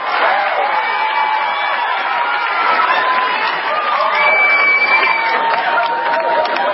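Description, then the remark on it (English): A crowd at an event where the commander-in-chief is about to speak cheers and claps steadily for the whole stretch, a dense roar with scattered whoops and shouts rising over loud, continuous applause. “The dumb audience doesn't know whether to boo or cheer.”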